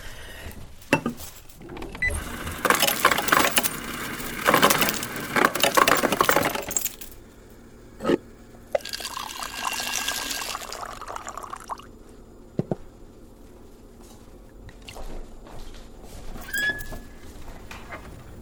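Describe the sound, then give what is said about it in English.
Ice cubes clatter and clink into a glass in several bursts, followed by water pouring over them, fairly loud with no talking. “I put ice in it.”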